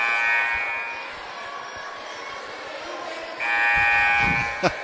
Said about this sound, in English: Buzzers all over the place.